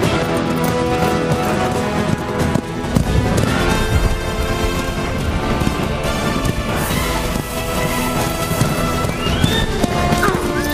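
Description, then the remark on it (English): Horse hooves gallop in a rapid, steady rhythm, loud, as Puss rides a horse across rocky plains and then through a fierce sandstorm, buried in a dense wash of sustained music and rushing wind that continues throughout. “Later, Puss rides a horse across rocky plains, then through a fierce sandstorm.”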